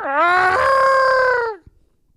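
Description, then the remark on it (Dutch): A person imitates a barn owl's call with one loud, drawn-out voiced screech lasting about a second and a half. It swoops up at the start, holds steady, then drops away. “zien we s'nachts een kerkuil vliegen. En we horen hem soms ook s'nachts...”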